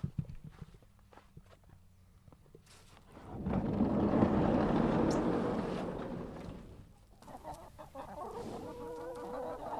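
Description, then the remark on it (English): Chickens cluck softly in a barn at midnight on Christmas Eve, with a broad rustling swell in the middle from a horse's soft exhale, and faint shuffling footsteps. No one speaks. “Listening intently to the gentle cooing of the chickens and the soft exhales of the horse's breath.”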